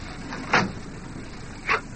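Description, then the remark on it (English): An unlocked bus door opening in the rain, heard as two short, fairly loud mechanical bursts about a second apart over a steady low background noise, with no voices. “The door's unlocked.”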